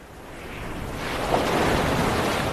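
Steady ocean surf washes onto a white sandy beach, a broad continuous roar that swells slightly louder midway, with a faint breath of wind and no voices.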